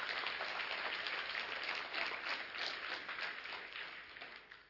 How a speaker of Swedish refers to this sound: Kom igen, ge Jesus en ordentlig applåd i förmiddag.